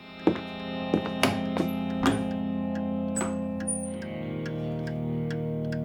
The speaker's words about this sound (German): Nachdenklich folgte Peters Blick den Zeigern einer schweren Wanduhr, die ihm letzte Nacht im Gastraum noch gar nicht aufgefallen war.